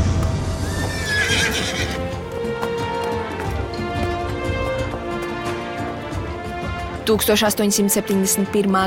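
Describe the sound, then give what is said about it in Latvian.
A horse ridden by the explorer Stanley whinnies loudly near the start over a steady background, and toward the end a burst of sharp hoof clip-clops rings out in quick succession. “Viņš jājar zirgu, bet visi pārējie iet kājām.”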